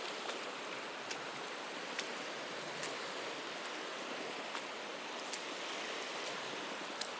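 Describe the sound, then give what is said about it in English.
Feet in walking boots paddle through shallow seawater, with a splash every second or so over a steady wash of surf and moving water. No one speaks. “Let me go and for added sound effect, if I paddle a little bit.”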